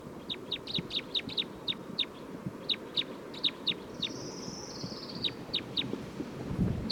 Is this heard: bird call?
yes